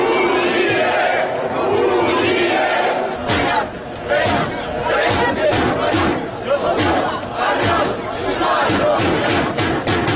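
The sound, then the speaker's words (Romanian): A large crowd of about 10,000 marchers at a peaceful, police-supervised unionist march for the union of the Republic of Moldova with Romania, gathered in the square of the Opera and Ballet Theatre, roars and chants together. A dense wash of many voices stays loud throughout, with rhythmic shouted bursts after the first few seconds. “10.000 de persoane, după estimările organizatorilor, s-au adunat în scoarul Teatrului de Operă și Balet la marșul unionist”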